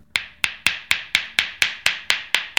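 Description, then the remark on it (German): A steady series of about eleven quick, sharp taps from a massage stone held on its edge against the body, tapping away a knotted hump where the complaints are, evenly spaced a quarter second apart, each with a bright, briefly ringing click. No voices. “Und jetzt würde ich anfangen, jetzt hier, da wo jetzt die Beschwerden sind, nehme ich den Stein an der Seite. Ah, hochkant. Hochkant und klopfe jetzt praktisch diesen Buckel weg.”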